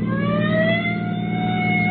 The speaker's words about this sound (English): I'll give him the siren. Why not hold it a few seconds, Sheriff? He still might be able to pull away from us. Yeah. Siren now.